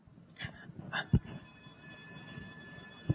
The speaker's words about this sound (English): The alarm. Train stopping.